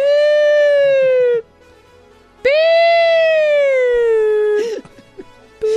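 Two loud ambulance siren wails, each a sustained tone that slowly slides downward in pitch, separated by a brief pause, with a short burst of noise at the end.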